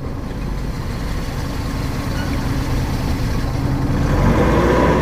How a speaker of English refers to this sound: She left the engine running on purpose.